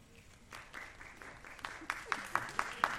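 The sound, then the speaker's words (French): An audience of about 400 people applauds on request while being counted; scattered applause builds into louder, steady rhythmic clapping over the last second, with a soft crowd murmur underneath. “Est-ce que vous pouvez applaudir que je compte?”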